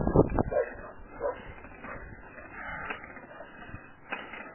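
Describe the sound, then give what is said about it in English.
Several locked-up dogs bark in short bursts, loudest at the start, followed by high whimpers and yips, with a faint background hum. “These dogs are locked up.”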